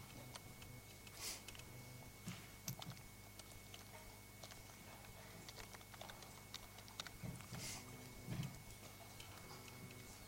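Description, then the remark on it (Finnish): Quiet, irregular clicks of typing on a computer keyboard, a few keystrokes at a time with pauses between, over a steady low electrical hum; nobody speaks. “Kokeillaan tällä näppäimistöllä.”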